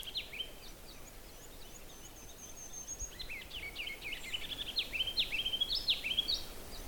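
A ruby-crowned kinglet sings: a few thin, high notes, then a rapid, energetic run of bubbling, warbled phrases that grows louder, heard alone over a steady outdoor hiss.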